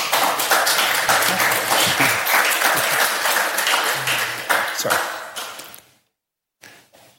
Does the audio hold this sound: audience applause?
yes